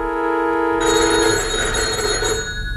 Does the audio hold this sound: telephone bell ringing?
yes